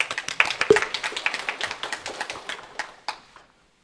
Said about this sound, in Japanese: 新人なので温かく見守ってあげてください。一応拍手。